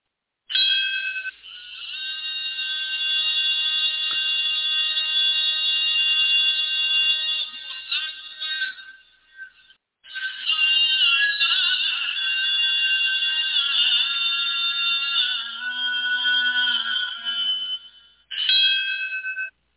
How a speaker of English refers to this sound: That was the bell that they rang. It's like a remembrance bell for 911. Okay, and they rang it 2,977 times.